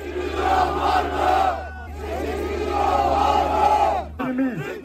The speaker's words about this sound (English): The Turkish health minister was loudly booed as he prepared to speak at one ceremony, while the region's mayor also faced an angry crowd.